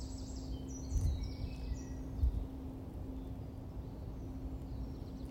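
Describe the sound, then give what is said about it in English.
Faint birdsong: a few high, thin chirps and twitters drift in over the first couple of seconds, then fade. A steady low hum fills the rest, with no voices. “Just as you can hear this bird song and the silence behind it at the same time, silence and sound.”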